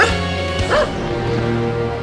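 A dog barks once or twice at moderate loudness, with a brief whimpering tone, over a steady tonal backdrop like soft background music.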